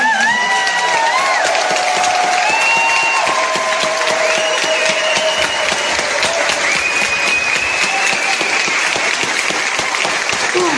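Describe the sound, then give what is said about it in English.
A crowd at the Enough is Enough rally in Bristol gives a long, steady round of applause for Barry West, South West Regional Organiser of the Rail, Maritime and Transport Union, many hands clapping densely and loudly throughout with no pause, and no one speaks over it. “That's a round of applause there for Barry West, the South West Regional Organiser for the Rail, Maritime and Transport Union, speaking at the Enough is Enough rally in Bristol this week.”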